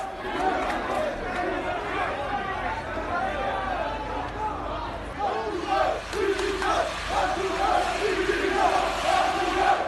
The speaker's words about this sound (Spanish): Hablamos de decenas de aficionados sin violencia, que es verdad que entraron en el perímetro ayer por la tarde, que gritaron en contra del presidente, un sonido que en la radio se escucha así.